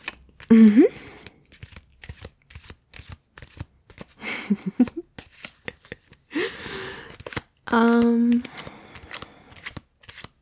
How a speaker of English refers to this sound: It's just cards and clothes. Let me shuffle and you just take a drink, okay? You'll loosen up.